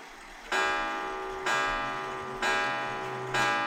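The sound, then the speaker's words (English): A clock ticks loudly and steadily, four sharp metallic ticks spaced about a second apart, each leaving a brief ringing tail, with no voices present. “That is my clock.”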